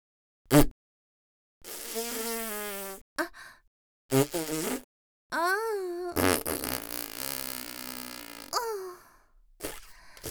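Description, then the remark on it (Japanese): A run of loud farts with no talking: a short pop, then several long buzzing, sputtering blasts of varying pitch separated by brief pauses, ending with a quick final toot. “おなら我慢しないよ。”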